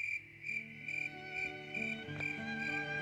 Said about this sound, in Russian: По вечерам из дома старого доброго волшебника разносится чудесная музыка сверчков.